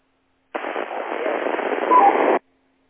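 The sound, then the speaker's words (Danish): A burst of garbled, band-limited radio noise, like two transmissions colliding, lasts about two seconds, with a couple of brief, faint tones near the end before it cuts off abruptly. “Og der var en dobling der, og der kom ikke rigtig noget ud af det andet, nogle toner.”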